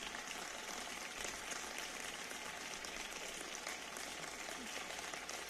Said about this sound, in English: I'm not sure who's clapping, because the camera doesn't catch anybody clapping. They're just all leaving.